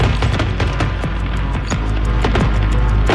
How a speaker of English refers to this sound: Fireworks are very loud, just as gunfire, but they are very sporadic. A lot of crackling. Sometimes they echo, and sometimes there's a whistle before the fireworks.